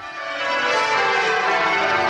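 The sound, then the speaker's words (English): Church bells at the abbey where kings and queens have been crowned peal continuously to mark the arrival of Charles and Camilla, a dense wash of overlapping metallic tones ringing loudly and steadily with no voices, the layered strikes blending into a sustained shimmering chime. “At the abbey where kings and queens have been crowned since William the Conqueror in 1066, bells rang out to mark the arrival of Charles and Camilla.”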